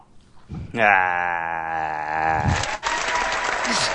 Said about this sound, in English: Someone doing applause for themselves now.